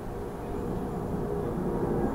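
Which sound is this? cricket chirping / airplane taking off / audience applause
airplane taking off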